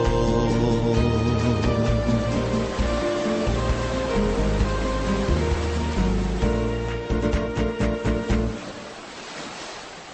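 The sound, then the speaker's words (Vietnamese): Ocean waves wash steadily onto the shore beneath a bed of sustained, slowly shifting musical chords; near the end the music drops away, leaving a softer surf hiss. “Biển Florida hay là biển Việt Nam ạ?”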